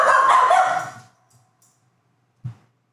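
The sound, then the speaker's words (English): A dog barks loudly, a burst of rough sound that fades out within a second, followed by quiet and then one short, low woof. “The dog's upset about that too.”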